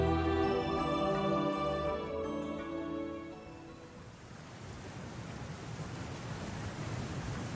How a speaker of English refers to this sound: Do you hear that? The rushing of water from what feels like everywhere?